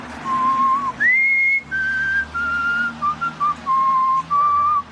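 A man whistles a slow, lyrical melody of sustained, gliding notes that rise and fall, with brief breaths between phrases, clear and close over a faint low background hum.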